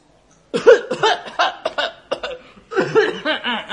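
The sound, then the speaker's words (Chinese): A performer fakes a string of coughs while acting out a pickpocket who has been noticed, a quick burst of several throaty, exaggerated hacks, a brief pause, then another round, loud with a slightly laughing, theatrical quality. “假装咳嗽。”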